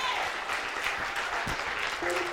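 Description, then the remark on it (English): An audience claps hands in a dense, steady roar of applause that holds at an even loudness throughout, with a few faint voices rising briefly above the clapping. “If you are a victor, oh, clap your hands.”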